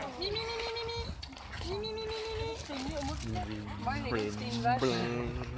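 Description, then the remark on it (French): A person imitates a cow's moo in drawn-out, wavering vocal tones, repeated several times with short pauses between and other voices murmuring faintly underneath. “Tu fais la vache?”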